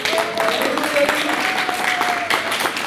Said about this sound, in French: Alors je vous demande, pour affronter l'équipe des États-Unis, d'applaudir bien fort l'équipe de France.